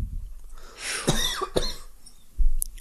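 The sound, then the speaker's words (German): A person coughs a few times in quick succession, fairly loud, with harsh bursts followed by a short rasp; no one is talking. “Da hustet gleich jemand.”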